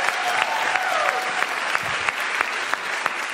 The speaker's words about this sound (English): Can we give these guys another round of applause here?